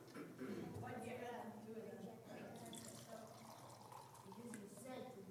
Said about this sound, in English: Why is the water going to run everywhere if I pour it on here? Because it's flat?